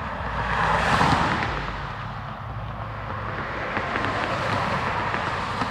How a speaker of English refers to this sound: KR is the border between Kenosha and Racine counties. In late afternoon, the two-lane road gets a fair amount of traffic, and some drivers go over the speed limit of 45 miles per hour.